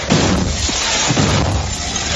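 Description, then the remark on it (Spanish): A grenade thrown by a councillor from President Zelensky's party explodes in a local council meeting in Ukraine: a loud blast with a heavy low rumble and dense crackling roar that fills the whole moment, with no clear speech. “Una persona ha muerto y otras 26 han resultado heridas, varias de gravedad, en un consejo local en Ucrania por la explosión de una granada arrojada por un concejal del partido del presidente Zelensky.”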